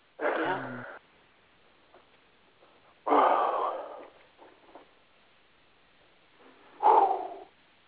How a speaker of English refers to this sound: breathing heavy doesn't help.